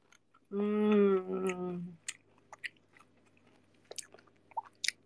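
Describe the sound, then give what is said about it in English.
A brief hummed vocal sound, then wet chewing with scattered crunches and mouth clicks at an irregular pace, fairly soft. Someone is eating a meal that includes anchovies, with the microphone moved close to their mouth. “How do you want me to chew? I'm already like moving the mic closer to me.”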